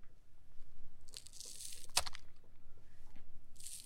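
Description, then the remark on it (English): A knife chops straight down through scallions, the wrong way to cut them, crushing the plant cells, with crisp, crunchy cuts, one hard sharp chop landing mid-way, the blows heavy and blunt like an axe; no talking. “So first, let's play the sound of the wrong way to cut scallions, and then we'll describe what's happening.”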